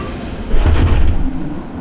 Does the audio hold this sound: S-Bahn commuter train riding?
yes